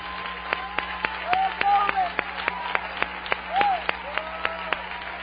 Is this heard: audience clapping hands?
yes